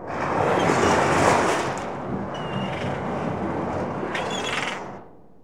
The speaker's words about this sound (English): Waves.